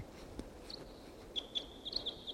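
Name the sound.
wild bird calling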